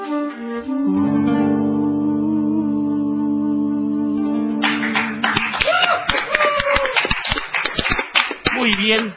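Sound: clapping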